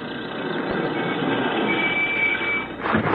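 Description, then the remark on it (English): A truck drives along a rough road, coming back to help haul things: a steady, dense roar of engine and rattling with a faint whine running through it, shifting slightly near the end. No one speaks. “coming back with a truck to help me haul some of this stuff.”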